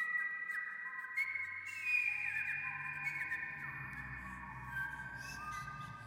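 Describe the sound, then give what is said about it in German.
Sustained, slightly wavering whistled tones hold and glide at a steady moderate level, with a low humming drone swelling underneath in the second half; no one speaks. “Ist es nicht vielleicht doch nur ein Pfeifen?”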